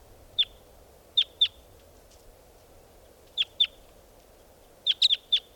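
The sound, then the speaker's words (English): Short, sharp calls of decoy birds repeat in loose groups of one to five notes, clear, standing out over a low, steady outdoor background hiss with no talking. “These are the calls of the decoys.”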